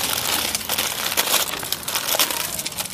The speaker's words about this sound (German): Ich knister nicht so rum, es verknistert sich die Aufnahme.